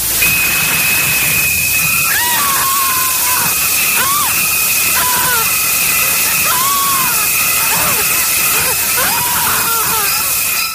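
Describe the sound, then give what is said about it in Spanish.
Shrill, wavering screams from an Alfred Hitchcock horror film rise and fall again and again over a constant high whine and heavy hiss, with no clear talking. “Que ver con los grititos, ¿eh?”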